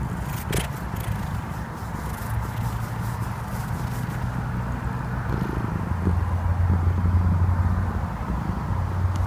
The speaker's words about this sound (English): Jimmy, you're scratching. Keep scratching, Jimmy, while I have the phone out. Can I hear you purring?